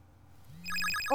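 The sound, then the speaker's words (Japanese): A bright electronic ringtone for an incoming call on a tablet starts up suddenly, a rising cluster of chiming tones over a low hum, playing clearly with no talking. “あ、あれ？タブレットに着信？誰からだろう。”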